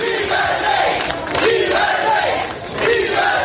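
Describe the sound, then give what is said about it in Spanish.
A large crowd at the Sanjenjo marina cheers and applauds continuously as King Juan Carlos arrives, with many voices shouting "viva el rey" and "viva España" in unison over the dense clapping, loud and sustained throughout. “Bueno, con aplausos y, como escuchamos, con gritos de viva el rey, también de viva España.”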